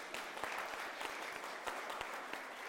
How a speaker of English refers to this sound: And if you're watching online, we'll give a round of applause.